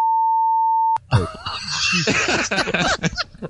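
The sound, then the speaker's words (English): A loud, steady censor beep holds one pitch for about a second, then cuts off abruptly into laughter and vocal noises. “just put a long beep over that one.”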